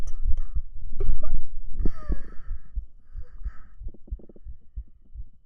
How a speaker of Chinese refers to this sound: 已经好喜欢听你的心跳声，现在不用仔细听就能感受到他跳的有多快有多有力了。弟弟的心跳声咚咚